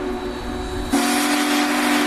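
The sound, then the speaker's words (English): The Big Boy steam locomotive, as long as 3.5 school buses end to end, passes through St. Louis at Union Station on its way to DeSoto, blowing its deep, multi-note chime whistle over a steady roar of rumbling train noise, the whistle swelling suddenly louder partway through and holding steady. “It had like thousands upon thousands of views with just the big boy coming to St. Louis.”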